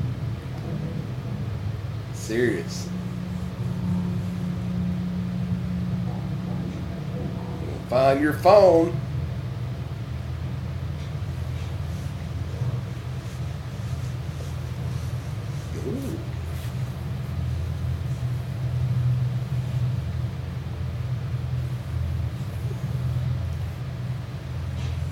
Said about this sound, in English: See, that's his damn truck running with the door open.